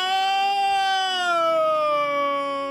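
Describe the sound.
A person imitates a horrified scream with one long, loud, high-pitched wail that slides slowly downward in pitch. It is sustained, and sounds almost like a siren.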